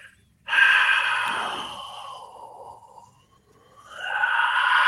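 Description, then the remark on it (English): A voice imitates heavy breathing heard on a camera's microphone: one long, loud, rasping exhale that trails off, followed after a brief pause by the start of another breathy rush. “It was just somebody breathing.”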